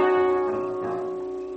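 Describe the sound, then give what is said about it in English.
A car engine running as a steady, even drone with a strong buzzing tone that holds level throughout, easing off only slightly toward the end, with no voices. “Gee, this is a neat car.”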